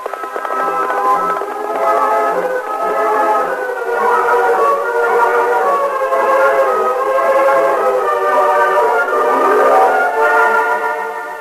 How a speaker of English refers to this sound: In a wooded grove near the railroad tracks, 4 men with their faces masked by bandanas waited tensely as they heard the distant whistle of an approaching train.